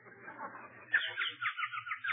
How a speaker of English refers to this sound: Ah, listen to the birdie.